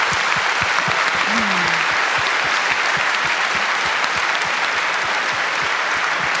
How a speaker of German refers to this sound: Gut, vielen herzlichen Dank für diesen Vortrag. Ich bitte noch einmal um Applaus für Katharina König und Heike Kläfter.